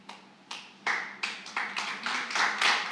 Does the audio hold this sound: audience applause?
yes